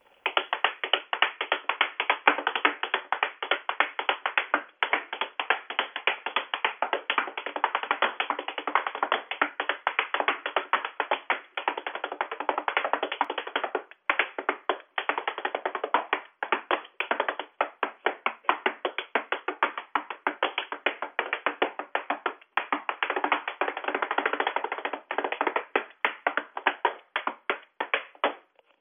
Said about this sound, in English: My tap dance warm-up will vary depending on what is inspiring me rhythmically in the moment.